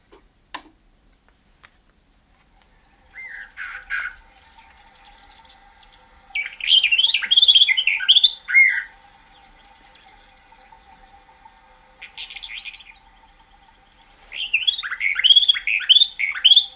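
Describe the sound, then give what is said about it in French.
Clear recorded bird song played from a disc, the bird's Greek song, in repeated bursts of rapid, warbling notes, with a second, softer bird answering between phrases. A faint steady ticking runs underneath, and no one speaks. “Voilà, alors là, il y a un autre oiseau qui répond, c'est une autre.”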